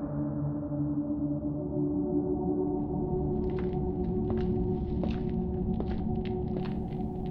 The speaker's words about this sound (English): Their footsteps disappeared down the hall.